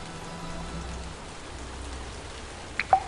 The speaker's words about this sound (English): The rain was dropping in what could only be described as hammers as the sun sank lower in the sky.